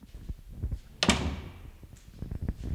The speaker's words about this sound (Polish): Otwieram drzwi i wychodzimy generalnie na korytarz.